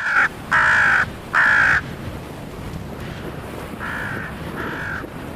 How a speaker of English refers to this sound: The smaller birds are soaring around in the eagle's path. When they spot an eagle, they make loud alarm calls and fly up to confront the threat.